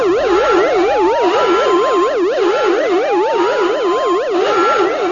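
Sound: spaceship cockpit alarms blaring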